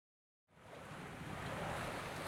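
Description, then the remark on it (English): Boats, among them an American boat and a British boat, race through water with a loud, steady rush of churning spray and wash that starts abruptly and swells slightly, with no voices. “Wow, that boat's fast. Not as fast as the American boat. Look at it go.”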